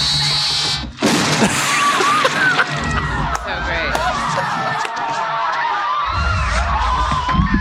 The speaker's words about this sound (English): So his head just blows up, yeah.